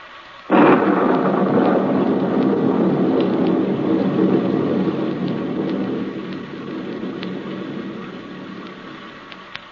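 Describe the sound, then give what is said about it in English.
A sudden loud crack of thunder breaks in and rolls into a long, gradually fading rumble, while steady heavy rain hisses throughout. No one speaks. “I can't make gasoline out of rain.”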